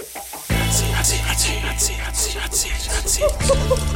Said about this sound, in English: There's that sizzling sound. You know what that means? It means I have too many irons in the fire. Well, possibly, but no, that sound means that it's hot seat time.